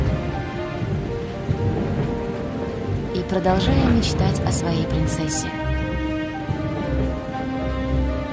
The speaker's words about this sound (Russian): Дождь лил как из ведра, молнии сверкали, и звуки грома эхом отдавались в замке.